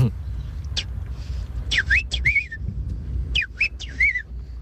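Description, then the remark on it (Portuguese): A person whistles clumsily: a quick flick of a note, then two bursts of short, wavering, uneven tones that slide up and down, over a steady low background rumble. “Não, isso é só um assobio mal feito.”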